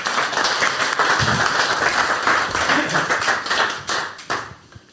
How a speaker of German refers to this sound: Ja, dann würde ich einmal kurz um Applaus bitten